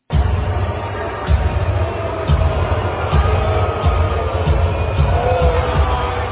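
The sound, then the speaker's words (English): A large arena crowd of Lakers fans boos their own team, the Los Angeles Lakers, after a LeBron James turnover, steadily for several seconds, a dense, low, sustained roar that swells in uneven waves, with dull rhythmic thumps beneath it. “Let's listen to these boos. I want you guys to hear this.”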